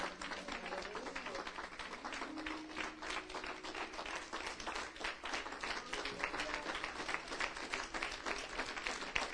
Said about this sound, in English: Let's stand. Let's give him a hand of praise. Let's stand and give him a tremendous hand of praise for the teaching, for the word. Come on.